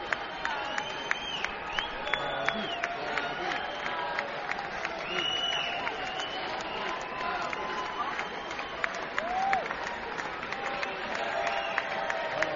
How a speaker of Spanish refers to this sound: Creo que se va a oír como un minuto de aplausos